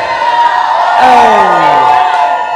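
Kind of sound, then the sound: crowd, crowd cheering and whooping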